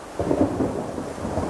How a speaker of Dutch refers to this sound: Opeens begint het te waaien. De wolk vliegt sneller en sneller. En dan begint het te regenen.